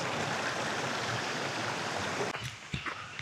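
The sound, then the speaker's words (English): A fast, full, high-running stream rushes loudly in a steady, hissing roar, which cuts abruptly to a softer background with a few small knocks and splashes near the end. “Wow, water's so high. Could barely cross.”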